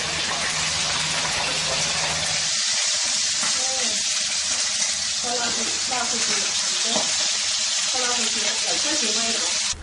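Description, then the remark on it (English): Food sizzles and crackles loudly in hot oil in a Chinese household kitchen, a dense, steady hiss filling the whole clip, with faint voices and utensil stirring beneath and a low hum at the start. “This is a typical kitchen in Chinese households. Oil is used in almost all of the dishes.”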